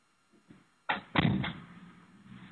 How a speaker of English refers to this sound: One second, I'm just going to close the door. It keeps some noise out here.